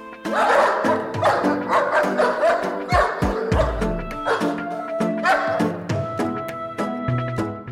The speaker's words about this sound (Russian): Они были полны гнева на людей. Собачий вожак отошел от других собак, залаял и пронесся по стойбищу.